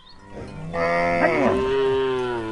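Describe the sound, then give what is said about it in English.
Cattle low in long, drawn-out moos that overlap, at least two animals calling, loud and sustained with no talking. The cows are kept by a Maasai herder on a plain south of Nairobi, Kenya. “Kelvin Tapaya tends 11 cows and 60 sheep on the broad yellow plain south of Nairobi.”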